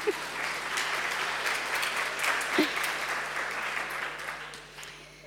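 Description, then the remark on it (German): An audience applauds steadily for several seconds to welcome a visiting family, a dense wash of many hands clapping at once that stays loud throughout and only starts to thin out at the very end. “Kann man ruhig klatschen, das ist jetzt nicht so schlimm.”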